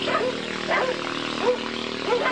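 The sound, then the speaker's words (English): Two watchdogs bark an alarm as visitors arrive at a shrimp farmer's home in Camau, a series of sharp, harmonic barks coming every half second or so in an uneven rhythm over a steady low hum. “A half-hour boat ride to the south, two watchdogs sound the alarm as visitors arrive at the home of Nguyen Nap Thang, a rising star among Camau's shrimpers.”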